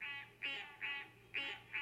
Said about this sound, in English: What follows are three recordings. First, the harsh quack of green tree frogs.